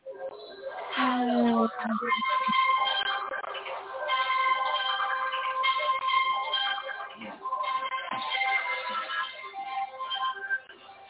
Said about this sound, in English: Okay, what just happened? All right. That was my phone